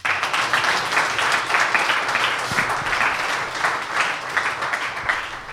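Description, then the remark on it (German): A live audience at the HSG applauds steadily for several seconds, a dense patter of many hands clapping at once with no pause, loud and sustained throughout. “Wir haben auch immer noch Publikum. Macht euch nochmal bemerkbar, bitte.”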